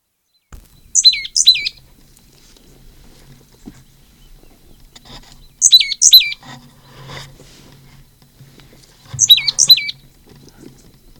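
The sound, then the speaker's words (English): Three separate bursts of high, slightly melodic bird calls, each a quick pair of bright, sliding whistled notes, spaced several seconds apart over faint low background rumble, given by one of a pair of birds flying down to a cavity in an oak at Upper Moline Gully. “Second flew down with the slightly melodic notes. I believe the one that gave that call is the one that flew down second.”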